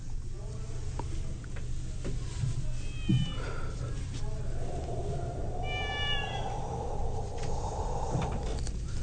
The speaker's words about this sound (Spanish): ¡Miau! ¡Miau! ¡Shh! ¡Shh! ¡Ay! ¡Maullador gatito!